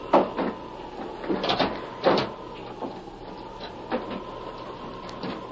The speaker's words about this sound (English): Wait till I close this door. There.